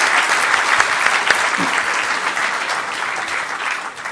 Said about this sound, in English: Could I get a round of applause, please, for the Harvard Five?